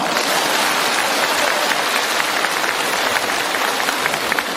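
A crowd applauds steadily for several seconds, a dense, even patter of many hands clapping at a constant loudness, with no voices over it.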